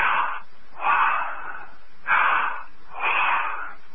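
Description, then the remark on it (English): Slow, deep breaths drawn in and let out, four broad airy bursts in a steady rhythm, fairly loud, with no talking. “Just breathing in the Neshamaya. The breath. Bring it in and then exhale.”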